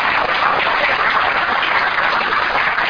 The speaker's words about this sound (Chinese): 我们用拍手把一切荣耀归给你哈。